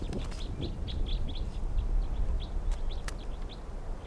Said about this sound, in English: Recording this bird 3:26.